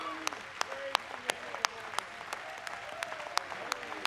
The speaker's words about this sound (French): They're clapping for horse races. We're clapping because we're one of them. Ils applaudissent pour les chevaux, mais nous applaudissons pour lui.